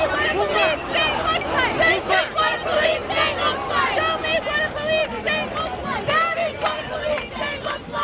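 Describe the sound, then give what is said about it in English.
A large crowd of demonstrators shouts angrily at police, many raised voices overlapping in a dense, continuous roar that stays loud for the whole stretch, with no single speaker standing out. “At least 15 people were detained in that incident, and crowds shouted angrily at the police.”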